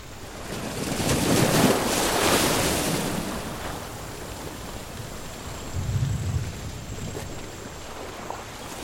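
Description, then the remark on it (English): Ocean waves roll and crash in a steady wash of surf, swelling loudly early on, easing, then surging again with a deep low rumble near the end, with no voices. “I never noticed there was an ocean here.”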